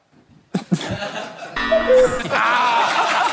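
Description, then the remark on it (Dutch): A voice imitates a cuckoo with two quick hooting notes in front of an audience, followed by a burst of applause and laughter from the audience that carries on steadily to the end. “Kijk, ja, een goede koekoek. Je krijgt hier gewoon applaus voor een koekoek.”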